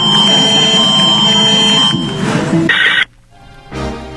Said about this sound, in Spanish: Con la activación de la alerta sísmica en todos los teléfonos celulares, se realizó el segundo simulacro nacional 2025. El mensaje llegó acompañado de un fuerte sonido.